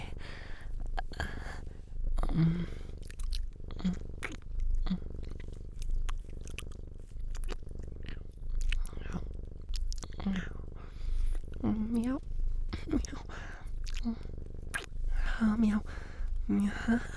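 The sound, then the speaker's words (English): A person imitates a cat's purr, a steady low rumble running throughout with soft whispery breaths and small vocal catches breaking in now and then. “Oh no, I'm gonna purr even more.”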